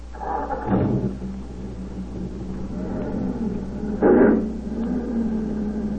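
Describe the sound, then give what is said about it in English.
A car engine starts and hums steadily, with two brief louder surges of rough, noisy revving, one near the start and one later on. No one speaks. “Start the car.”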